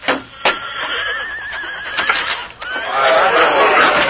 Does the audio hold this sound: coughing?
no